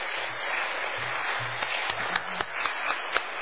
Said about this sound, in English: So I know you're tired of clapping, but I'm going to ask all of you that performed tonight, if you just stand up one more time, turn around, let us give you one more big round of applause.